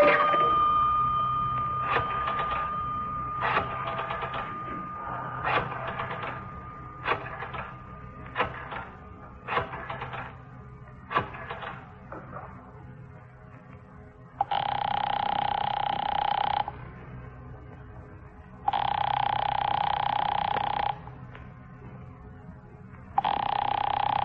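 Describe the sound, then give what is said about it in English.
A telephone ringing upstairs and going unanswered rings in two long, steady buzzing bursts with a pause between, after a run of about ten short, sharp clicks at an uneven rhythm. No voices are heard. “He won't answer. It's ringing. I can hear it upstairs.”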